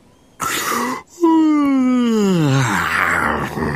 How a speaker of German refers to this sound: Wie zum Beweis reißt der Hase seinen Mund bis zu den Löffelohren auf und gähnt.